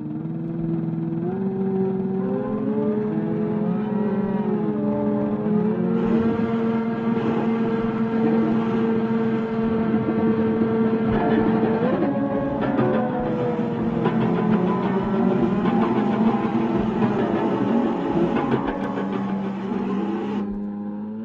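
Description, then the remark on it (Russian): Futurist mechanical noise instruments built by Russolo drone and whirr with buzzing, engine-like tones that slide up and down in pitch, thickening into a loud, grinding, rasping mass after a few seconds, with no voices. “Руссоло начал создавать звуковую композицию, используя шумы, которые производили созданные им устройства.”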